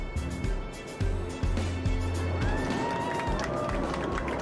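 Someone walks with steady footsteps, heavy thuds about every half second, amid a busy, noisy space with murmuring and a faint rising electronic whine, while shining a flashlight at the escape-route light strips on the floor, with passengers present.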